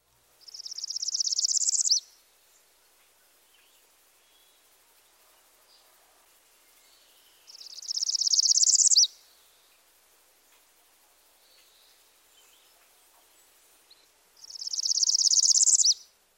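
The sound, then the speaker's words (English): A black-throated green warbler sings a high, thin song that repeats three times with long quiet gaps between, each phrase a buzzy trill that slides upward in pitch to a bright finish, clear. “While the song just heard progresses by discrete steps, another variation glides to the top.”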